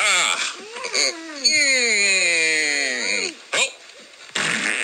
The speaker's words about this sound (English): Those are the same fart sound effects from the fart machine.